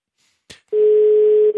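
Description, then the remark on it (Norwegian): A short click, then a steady, single-pitched ringing tone of an outgoing phone call sounds loud for most of a second, briefly breaking before starting again. No voices are heard. “Så ringer du den da? Ja. Det jo gøy da, hvis det Ja, det vel gøy. Ja, det ringer.”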